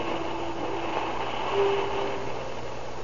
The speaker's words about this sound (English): At 7:45 on the morning of October 19, 1931, train number 3 rolls into the Southern Pacific Station from Phoenix, Arizona.